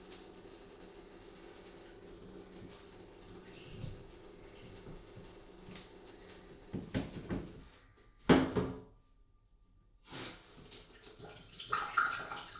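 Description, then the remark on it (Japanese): Water patters and splashes from a shower head in a bathroom, a steady wet hiss broken by irregular drips and a few louder clatters and knocks, with no one speaking. “ちょっと待ってくださいね、シャワーヘッドに水が結構ピチョピチョってなっちゃって。”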